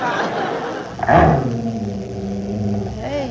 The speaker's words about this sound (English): Hey, listen to that dog growling.